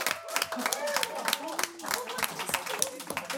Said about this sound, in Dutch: Mag een groot applaus voor Jong geleerd is oud gedaan.